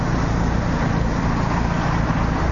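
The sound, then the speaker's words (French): Steady roadway traffic rumbles continuously, a broad low engine drone with no individual vehicle standing out, fairly loud, with no voices over it. “On est sans moteur, mais les autres ne le sont pas. Hein. Ça s'entend, hein?”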